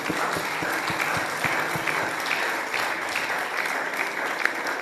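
A crowd claps steadily in a dense, continuous burst of applause, many hands clattering together at a fairly loud, even level for the whole stretch.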